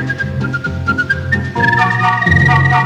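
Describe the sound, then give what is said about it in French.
A short whistled melody glides over a steady musical backing, the bright piping notes stepping up and down before settling into a sustained, fuller passage. “Donne-moi ma liberté et je t'apprendrai à siffler ce petit air qui te plaît.”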